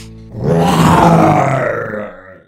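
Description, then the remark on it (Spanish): A fierce, rumbling lion growl, loud and gravelly, swelling for about two seconds before trailing off, with no talking. “Y así, mientras Gruñón el León, cada vez más enojado, no paraba de dar feroces y fuertes gruñidos,”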